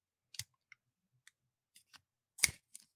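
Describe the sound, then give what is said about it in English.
A thin piece of paper being torn to show a partial UCL ligament tear, heard as a scattering of short, dry crackles and snaps with gaps between them, then one louder rip near the end. No one speaks. “If you're just listening and not watching, Pat had a thin piece of paper.”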